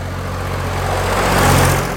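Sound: tractor engine running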